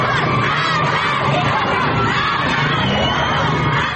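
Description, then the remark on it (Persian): A large crowd of school students in Sanandaj shouts protest chants together after leaving school, in a dense, continuous, loud roar throughout, with overlapping yells and chant-like bursts and no quiet gaps. “و این فریاد اعتراض دانش آموزان سنندجی بعد از خروج از مدرسه.”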